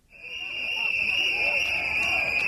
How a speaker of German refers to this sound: Ihre Trillerpfeifen sind so schrill, dass es schon fast wehtut in den Ohren.